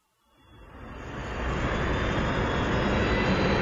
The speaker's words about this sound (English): The two TIE fighters descended to a smooth landing.